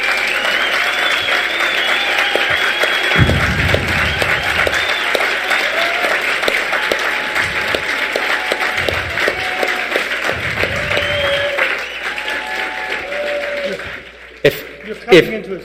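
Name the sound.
audience applause and clapping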